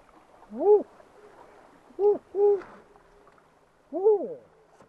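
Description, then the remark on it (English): A person imitates an owl at night during an owl survey, with four hooting calls: one, a pause, a quick pair, then a final hoot. Each is loud against faint, steady outdoor background noise. “A few birds answer the team's owl calls, each very faint, none of them completely identifiable.”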